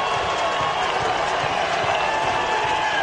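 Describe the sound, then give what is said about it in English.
A huge baseball stadium crowd at a Texas versus West Virginia game roars in a loud, continuous wall of cheering and applause on learning that Kansas State has beaten TCU, steady and dense throughout, with no single voice standing out. “you see the crowd starts erupting”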